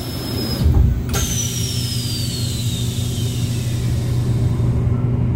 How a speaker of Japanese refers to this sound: 今私がいるのは東京の品川駅ホームです。で今私は特急ひたちの中にいまして、今まさに列車が発車したところです。